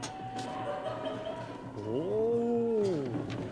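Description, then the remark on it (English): A single drawn-out seagull call that rises, holds and falls in pitch for over a second, clear and fairly loud over a faint steady background hum, with no talking. “Wait, a seagull?”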